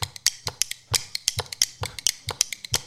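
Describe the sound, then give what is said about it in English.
Rhythm bones, two pairs played one in each hand, clack in a quick, syncopated pattern. Sharp, bright clicks fall in uneven clusters over a steady underlying pulse, played alone with no voices. “So let me show you what they sound like. You get two pairs of bones, shake one, get some rhythm going, get the syncopated rhythm going with the other hand.”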